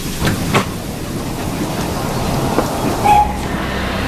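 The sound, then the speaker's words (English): A Metropolitan Line underground train rumbles steadily along, with a few sharp wheel clacks on the rails and a brief metallic squeal near the end, loud. “you were a passenger on the Metropolitan Line?”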